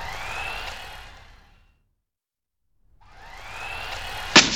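A remote control toy car's small electric motor whines with rising pitch, fades away, then returns after a pause and ends in a sudden sharp crash as the car zips past and slams into something.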